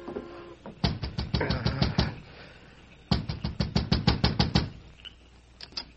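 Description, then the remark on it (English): A steam train pulling out of the station, with two runs of rapid, rhythmic chuffing, each about eight sharp beats, separated by a short lull, then a few fainter puffs trailing off. “As he hurried to Doc Tarno's home, he could hear the train leaving the station.”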